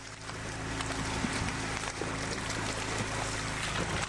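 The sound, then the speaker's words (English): A boat motor drones steadily on the Illinois River while scattered splashes and thumps break through as flying Asian carp leap and hit the water's surface around the hull. No one speaks. “Now, well, I'm afraid that's it sounds like the sound of the flying version, variety of species of the Asian carp.”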